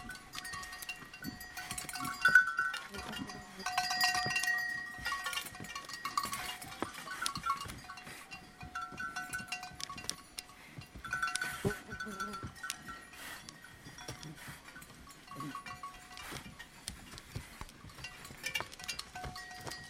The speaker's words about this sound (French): Merci, donc c'était les cloches des rennes des campements de nomades de Sibérie.